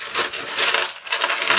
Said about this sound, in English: Let me get out my dice.